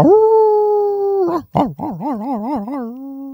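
A dog lets out a long, steady howl, breaks off briefly, then slides into a wavering, yodel-like warble that settles on a held note. Loud, with no one talking.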